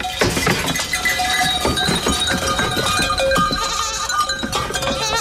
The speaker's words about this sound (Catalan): Aquest és el ramat de cabres que d'aquí unes hores tornarà a circular pel camí ramader de Marina. És una antiga ruta de transhumància que havia funcionat durant segles a Catalunya, però que ara ja no feia servir ningú.